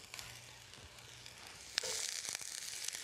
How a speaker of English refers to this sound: So we're going to put a bit of olive oil just to get it started. We've got these pans are hot already. I'm going to fire the onions in.